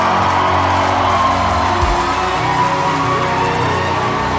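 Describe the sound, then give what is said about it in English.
A crowd shouts and cheers to celebrate the Lord in a steady, loud roar of many voices, with whoops and yells blending into a dense, continuous wash of sound for several seconds. “You're shouting like you don't want to fear God.”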